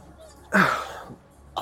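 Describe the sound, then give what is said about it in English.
A person fakes a single sneeze, a sharp explosive burst that trails off into a breathy, drawn-out exhale like a sigh, with another vocal sound beginning just at the end. “can do a really good fake sneeze.”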